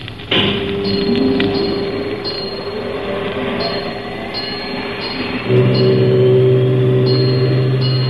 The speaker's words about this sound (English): How far away can a ship hear our signal, Chief? Oh, it can be picked up as far away as 14 miles under perfect weather conditions. Now, those submarine telephones are pretty sensitive instruments. Start the whistle, Chief.